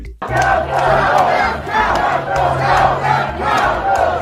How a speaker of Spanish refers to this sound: Bueno, a pantalla partida vemos y escuchamos a seguidores de Trump protestando por un lado en Arizona y por otro en Michigan. Unos gritan dejar de contar o dejad de contar, los otros contad mi voto.